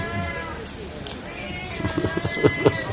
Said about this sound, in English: I've never heard such a vocal cat.